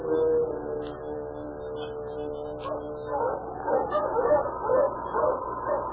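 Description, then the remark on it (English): A pack of sled dogs pulling a sled through snow yips and barks excitedly, Sergeant Preston's team with the husky King running ahead breaking trail. Long whining, howl-like cries run underneath and the yapping grows busier toward the end. No one speaks. “The sharpness of the air exhilarated the great husky, and he set a fast pace for the rest of the pack.”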